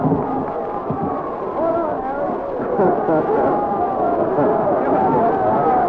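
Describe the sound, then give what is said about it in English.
A large crowd applauds and cheers in a dense, steady roar, with a drum roll from the band, holding at a constant loudness for about six seconds with voices mixed into the din, as a speaker takes the platform in Johnstown, Pennsylvania, on 22 October 1952. “Platform, getting a big round of applause and drum roll from the band, and now he's going to address the crowd.”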